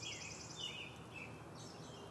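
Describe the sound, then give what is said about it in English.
High, thin birdsong chirps and trills overlap over a steady hiss, several calls rising and fading in quick succession, fairly faint and a few trees away, with no voices; birds in neighborhood trees in Franklin, Massachusetts, on a Friday morning, passing calls from group to group. “Instead of using a string and paper cups, they're using their bird songs to pass the message along to the next group.”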